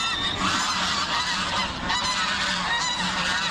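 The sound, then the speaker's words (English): A noisy flock of wild geese at Western Springs park in Auckland honks and squawks continuously, many overlapping calls with no pauses, forming a dense, harsh chorus of wild birds. “Their squawks and low-level assault, not to mention their poo, have taken their toll on the park.”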